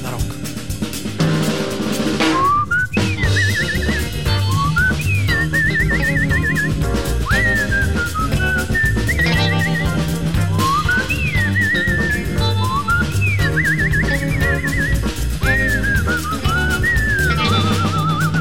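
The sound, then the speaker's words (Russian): A man whistles a lively melody in a song about radio, over a full, steady band backing, the whistled phrases rising and trilling in repeated bursts, clear and prominent throughout. “Он свистом разгоняет песни негатив.”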